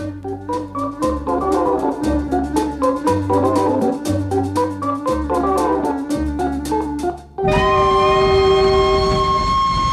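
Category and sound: vehicle, locomotive whistle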